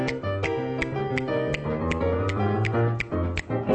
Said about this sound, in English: I've been practicing it all week. Yeah. I'm a real finger snapper from Flin Flon. I'm a Flin Flon finger snapper.